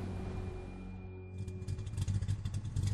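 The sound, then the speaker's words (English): The powerful engines of eight motorcycles idle with a low, steady throb, then swell into a loud, pulsing roar as they rev up and ride past in formation down Main Street just after sunup, with a rattling clatter running through it. “Just after sunup, everyone was awakened by the throbbing roar of the powerful engines of the two-wheel wags.”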